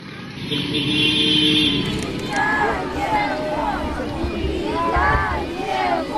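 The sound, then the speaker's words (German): A dense crowd shouts "Welcome, welcome home" and cheers continuously as buses and ambulances pull onto the grounds of the hospital in Chernihiv, Ukraine, with excited voices rising over a low engine drone throughout. “Willkommen, willkommen zu Hause, ruft die Menge, als endlich die Busse und Rettungswagen auf das Gelände des Krankenhauses von Tschernihiw biegen.”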